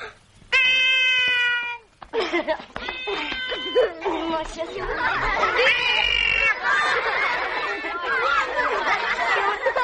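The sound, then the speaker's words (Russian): A person imitates a cat with a long, drawn-out meow, then a couple of shorter mewing calls, before loud overlapping chatter from a group of people fills the rest. “Ну, все получается, только кот не получается. Ну, послушайте.”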